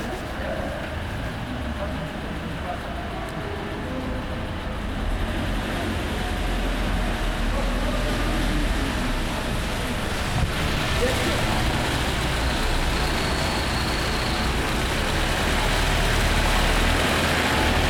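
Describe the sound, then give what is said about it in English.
A single car engine rumbles continuously in a small, five-story-high enclosed space like an upside-down tunnel, swelling louder after a few seconds and filling the space with a dense, strongly reverberant, echoing roar. “But isn't it amazing how one car really completely starts to control the whole space?”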